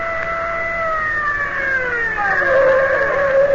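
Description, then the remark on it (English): A car pulls to a stop, its siren winding down in a steadily falling wail over a low engine rumble. The sound is fairly loud, with no talking. “I'll stop the car.”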